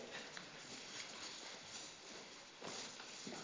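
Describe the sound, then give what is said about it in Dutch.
Footsteps of a person walking over to someone cross a room at a steady walking pace, a series of soft, evenly spaced thuds against a constant background hiss, with no one talking. “Ik kom gelijk naar je toe. Dit wordt even lopen.”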